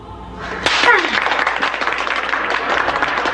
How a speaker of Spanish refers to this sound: ¡Ay, profesor! Es que usted se merece ese aplauso.